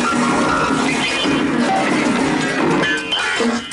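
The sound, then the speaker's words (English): A loud, chaotic crash as a grand piano is pushed through a plate glass window in a conservatory: jangling, discordant piano tones and shattering glass sustained for several seconds before thinning out at the end; no one speaks. “To the alarm of the assembled company, from the conservatory comes the unmistakable sound of a Scotsman engaging so thoroughly in sexual congress that he's pushed a grand piano through a plate glass window.”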